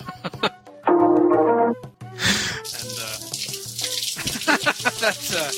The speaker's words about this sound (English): That water sound is making me think of other things. I thought it was frying bacon. Is he showering? All like that. I thought he was showering.